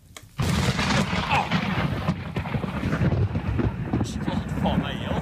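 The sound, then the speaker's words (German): A sudden, loud thunderclap from a lightning strike bursts in after a brief quiet moment, then rolls on as a heavy, sustained rumble with wind buffeting the microphone, recorded on a phone by hunters about 3 kilometres away during a severe storm on a high plateau in southern Norway. “Jäger waren am Wochenende nur 3 Kilometer entfernt vom Blitzeinschlag und haben ihn zufällig mit dem Handy aufgenommen.”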